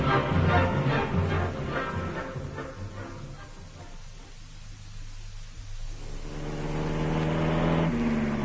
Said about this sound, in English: I must say, these German roads are wonderful. Yes. This car goes like a bomb. Was it very expensive to hire? Yes, it was.